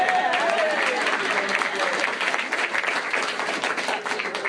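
A crowd applauds steadily, dense clapping holding at a fairly even level for several seconds, with a few faint voices mixed into the ovation.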